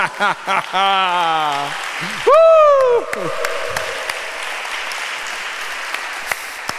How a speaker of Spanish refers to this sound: Esos son milagros. Un aplauso al Señor.